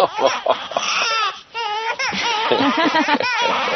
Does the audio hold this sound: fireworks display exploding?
no